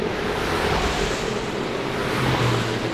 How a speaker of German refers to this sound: Ist aber nicht so schlimm, weil gemütlich ist es auf dem Balkon sowieso nicht. Obwohl von der lauten Strasse direkt unten dran nichts gestanden ist im Katalog.